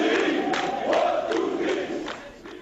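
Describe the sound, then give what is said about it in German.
A loud crowd of Algerian fans chants their rhythmic battle cry, "1-2-3, viva Algerie," in unison, with sharp accented shouts recurring about every half second over a dense wall of massed voices. “Das ist der Schlachtruf der Algerier.”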